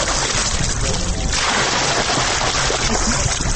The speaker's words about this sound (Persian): ما هم خواستیم سر به بند قرغه بزنیم که در اوج جوانان زیاد مشغول آبازی هستند.